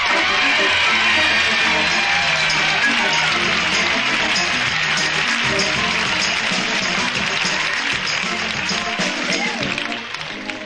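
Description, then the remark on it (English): Loud, sustained applause from an audience welcoming a Motown performer, a dense wash of clapping that holds steady for about ten seconds before easing slightly at the end, with crowd voices mixed in. “Big round of applause for”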